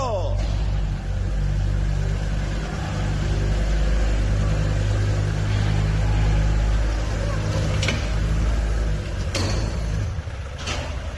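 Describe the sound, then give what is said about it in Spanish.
The engine of a car almost 50 years old roars and revs steadily as it is driven out of a garage flooded by a river flood, started after its battery was changed; a deep rumbling drone with a few sharp knocks and bursts of noise, while people shout over it. “Acabas de escuchar cómo un coche de casi 50 años de antigüedad sale de un garaje inundado.”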